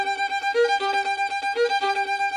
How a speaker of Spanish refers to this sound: Sí, sí, ahí suena cucu. Ahí suena cucu. Esto tocado a cámara lenta sería una cosa así. Es decir, está como introduciendo esas notas del cuco entre medias de las otras notas más rápidas.